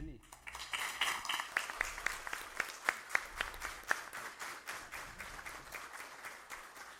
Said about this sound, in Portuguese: Mas eu gostaria aqui de quebrar o protocolo e pedir a todos uma salva de palmas para essas crianças e para essa associação aí que tem feito muito trabalho muito lindo, para essa equipe de frente.